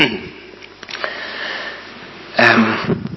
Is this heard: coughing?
yes